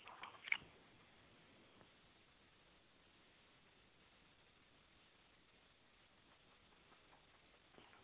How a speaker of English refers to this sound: Sip of tea. Here we go.